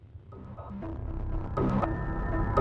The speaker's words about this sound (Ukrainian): Харків. Чутно літак. Лунають вибухи. Знову авіаатака. Російські літаки скинули бомби на ТЕЦ-5, гуртожиток на Клочківській та Інститут танкових військ на Холодній горі.